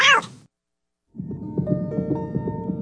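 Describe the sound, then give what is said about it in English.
A single loud meow, a brief pause, then a dense chorus of many cats meowing and yowling over one another, building steadily and continuing to the end. “Hey, where did all these cats come from?”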